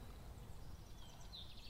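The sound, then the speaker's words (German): A faint, distant common chaffinch sings a short run of quick high notes in a floodplain forest in spring, over a low, steady background rumble, with no voices present. “Da hinten wieder der Buchfink.”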